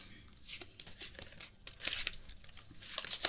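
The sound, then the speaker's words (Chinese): Playing cards are shuffled before the next round of a card game, a soft run of papery riffles and flutters in quick, uneven bursts, with no voices over them. “不像洗牌，不太会洗牌。”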